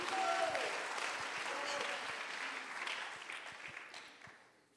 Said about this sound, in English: Oh, somebody that knows what I'm talking about, would you clap your hands right now unto the Lord? Los que saben de lo que ando hablando, levanten sus manos y aplaudan.